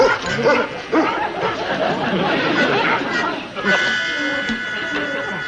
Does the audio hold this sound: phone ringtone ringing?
no